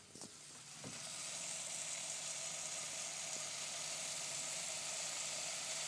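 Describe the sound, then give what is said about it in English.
Sugar sizzles in a hot pan, a loud, steady hiss that swells within the first second and carries on unbroken, with a few faint clinks near the start and no voices. “I'm going to make sure I've got no sugar left on the bottom of this pan, otherwise it's going to burn terribly.”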